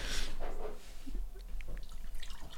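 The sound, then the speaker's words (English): Batch-brewed, uncaffeinated coffee is poured into a cup in a brief hissing splash, then settles into scattered soft drips and trickles, with no one talking. “All right, let's pour some batch.”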